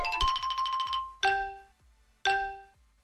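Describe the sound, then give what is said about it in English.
A game timer, set for 60 seconds, sounds its start chime: a rapid, fluttering run of bright tones for about a second, then two loud, ringing bell-like strikes a second apart, each fading out. No one speaks. “Let's set that timer,”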